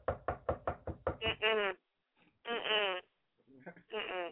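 A quick run of about seven loud knocks on a door, followed by drawn-out, wavering vocal sounds with pauses between them.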